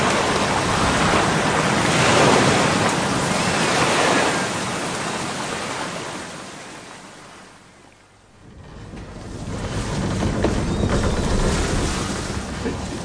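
Loud, rushing sea water surges and roars in broad waves against the hull of a small ship, coming in through the ship's sides, easing briefly into a quieter lull before swelling back up.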